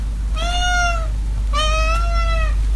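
A house cat meows twice, two drawn-out, slightly wavering cries about a second apart, fairly loud over a low steady background hum.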